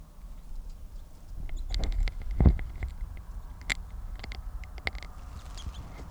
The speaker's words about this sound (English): That bird will be number 664, male with a left crossing bill, and good toops on tape.